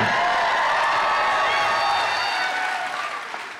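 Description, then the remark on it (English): A crowd applauds steadily, mixed with high-pitched cheering and whoops that sound largely female, holding loud for a few seconds before gradually tapering off. “I heard a lot of women cheering there, but not many men.”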